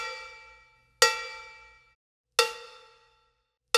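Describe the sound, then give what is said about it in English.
A Meinl Groove Bell cowbell fitted with its smaller mute, which takes out a little of the overtones, is struck three times at a steady, unhurried pace; each sharp metallic hit rings briefly with some overtones before fading out, clear with no one talking. “There's a smaller mute, and that actually just takes out a little bit of the overtones.”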